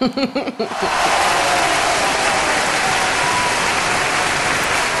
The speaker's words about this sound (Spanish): Porque a mí aquí me quedaron muchas ganas de aplaudir. Pero como no pude aplaudir, pues lo hago desde aquí.